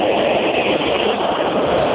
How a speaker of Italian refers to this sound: È un treno? C'è qualcuno che è in treno?